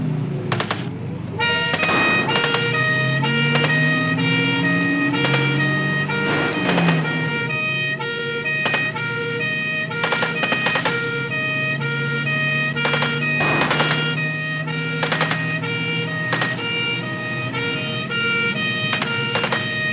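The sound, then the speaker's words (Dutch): Police car sirens wail loudly and continuously, with rising and falling tones layered over steady high pitches, punctuated by sharp rapid bursts like a busy street chase. No one speaks. “Samen in auto, sirenes, gierende remmen.”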